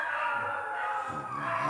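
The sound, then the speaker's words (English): Dogs howl at night in a long, sustained, wavering chorus, with steady, fairly loud tones and no one talking. “Yeah, I mean, it's mostly the dogs, you know, that come. But then they howl.”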